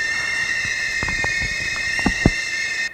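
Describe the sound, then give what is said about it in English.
Steady, shrill whistling tones from boiling teapots, played from a one-sided 7-inch record by an Argentinian band, hold at several high pitches over a bubbling, hissing bed, with a few soft knocks and thumps scattered through. “It's a one-sided record featuring boiling teapots.”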